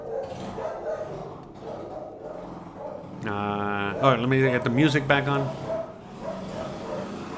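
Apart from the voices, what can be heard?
dog barking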